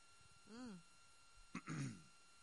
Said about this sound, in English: Even the translator had to clear her throat.